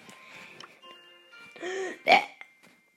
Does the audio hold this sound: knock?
no